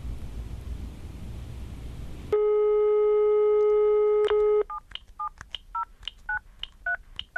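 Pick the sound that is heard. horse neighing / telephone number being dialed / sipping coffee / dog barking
telephone number being dialed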